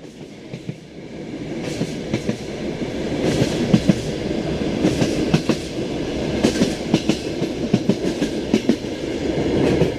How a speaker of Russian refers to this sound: И поезд уже поехал.